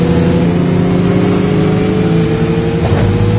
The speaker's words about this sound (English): Start your engine. 3, 2, 1, go! Okay, so I'm racing against other computer players.